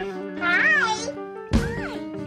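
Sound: cat meowing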